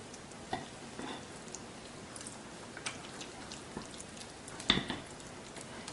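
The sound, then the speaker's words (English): Thick fritter batter, with olive water and a little more water added, being stirred in a bowl, a steady wet, crackly churn broken by irregular soft clicks and one sharper knock near the end, with no talking. “Give it a nice stir.”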